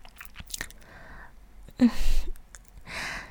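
gasping

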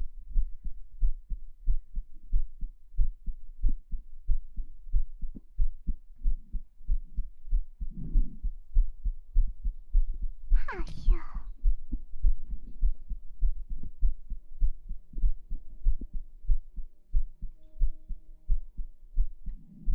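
heartbeat

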